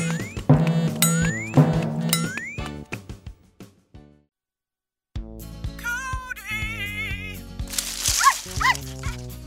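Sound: dog barking and whimpering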